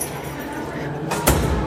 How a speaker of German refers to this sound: Tür geht zu.